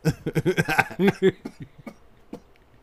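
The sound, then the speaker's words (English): A rapid run of loud coughs with a laughing, voiced quality, bursting in quick succession before trailing off into a few fainter, scattered coughs. “Oh, wow. You're making me cough.”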